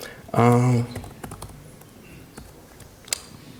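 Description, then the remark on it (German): A brief spoken vowel sound at the start, then a scattered run of light, clicky computer keyboard taps at an irregular pace, soft, ending with a sharper final keystroke; typing on a keyboard with mixed German and English layouts. “Deutsche, englische Tastatur mischen, immer eine schlechte Idee.”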